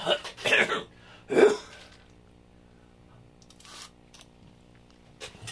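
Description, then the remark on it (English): A man coughs and clears his throat on air in a radio studio in Santa Cruz County, two or three rough bursts in the first couple of seconds, followed by near-silence with faint rustling. “Forgive me for not hitting the cough button like I'm supposed to before they pull my license.”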